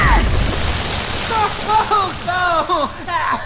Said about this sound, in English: Why would you break the drain pipe like that? Oh, water's spraying everywhere!